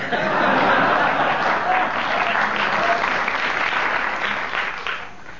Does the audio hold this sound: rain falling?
no